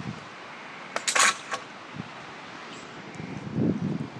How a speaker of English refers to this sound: I was meant to be watching eagle-eyed my daughter and her mother on a zip wire and judging who was the best. Oh, here she comes now. Here she comes on the zip wire.